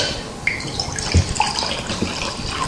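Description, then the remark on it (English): Water splashes steadily into a glass, a continuous gurgling stream with a couple of faint clinks, no voices. “You see this big glass of water? If I pour into this glass and then a drop into there, is it the same amount?”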